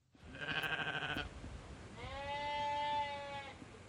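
Two drawn-out sheep bleats on a hillside at Alstonfield, Britain, one after another with a short gap between, clear over a soft outdoor background hiss.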